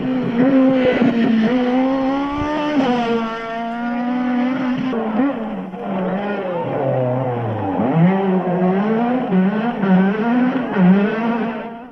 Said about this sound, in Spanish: Y es que este coche llevó al campeonato de llevarse el campeonato en el año 97 a Chus Puras nuevamente con este coche que, bueno, pues que todos los aficionados a las cunetas recordamos cómo sonaba.